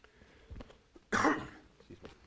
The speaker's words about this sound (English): I didn't want you guys to have to hear that giant cough there.